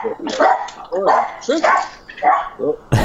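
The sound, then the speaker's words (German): Two dogs bark and yip in a quick run of five or six loud, sharp bursts over a few seconds, with a sudden noisy knock at the very end. “Jetzt haben die beiden Hunde es verpasst, berühmt zu werden, weil sie sind nicht mehr in deinem Gespräch drin.”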